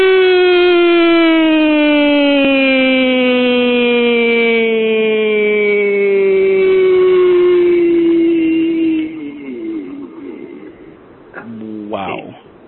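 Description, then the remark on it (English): A voice sings the word "free" as one long, loud wailing tone like an old fire-truck air siren, slowly sinking in pitch for about nine seconds before breaking into quieter, choppy vocal sounds. “You sound like one of those old air sirens you have on fire trucks.”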